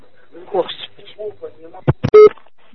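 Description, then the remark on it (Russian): A telephone rings with a brief, loud electronic tone near the end, preceded by a couple of sharp clicks, after muffled voices murmur in the background. “Кто это звонит-то?”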